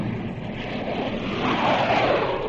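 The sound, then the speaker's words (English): A loud, continuous roar of jet planes rushing past, a dense whooshing rumble that swells slightly toward the end, with no voices. “Hear those jet planes?”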